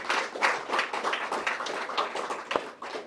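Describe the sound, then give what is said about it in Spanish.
A church audience applauds the Lord steadily for about three seconds, a dense wash of overlapping hand claps with sharp individual slaps standing out, moderately loud and without any talking. “Un aplauso al Señor.”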